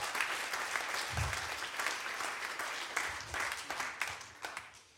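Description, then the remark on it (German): A church audience applauds God steadily, a dense wash of many hands clapping that holds for the whole stretch before tapering off at the end, with a few faint voices mixed in. “Tut dir eigentlich Gott auch mal einen Applaus geben?”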